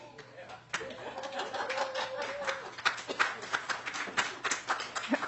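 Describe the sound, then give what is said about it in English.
The public attending a testimony hearing breaks into scattered, irregular applause that quickly grows into steady clapping of moderate loudness, with a brief voice or whoop heard early on amid the claps. “I will ask the public to please hold your applause.”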